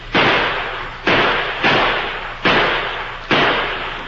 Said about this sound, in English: The Lone Ranger's plan had created an effective diversion. The outlaw Indians halted and returned the gunfire that came from the little house at the edge of the Pawnee Reservation.